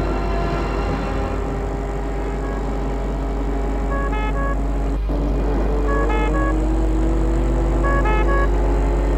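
Car and ambulance engines rumble steadily as they arrive at a château while horns honk in short repeated bursts, three clusters of toots spaced a couple of seconds apart, loud over the traffic drone.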